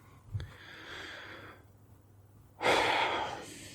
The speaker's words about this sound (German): Da muss er erstmal wieder schwer atmen.